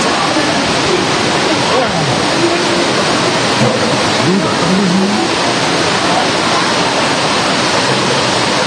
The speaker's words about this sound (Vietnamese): Rồi vào trong, vào trong, vào trong, vào trong nữa đi anh chị em, càng mưa to mình càng vào trong không sao cả, Chúa che chở anh chị em.